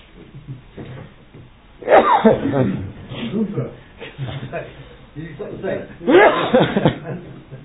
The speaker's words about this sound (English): Sorry, I'm about to sneeze.